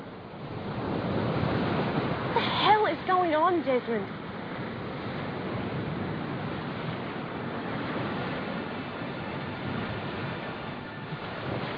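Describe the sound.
Waves break and wash steadily against a rocky beach, a continuous roaring hiss with gentle surges. Early on, a man briefly asks a question over the surf.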